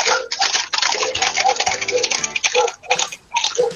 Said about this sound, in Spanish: Y es el paso de caballares que andan sueltos, ¿eh? De día, de noche.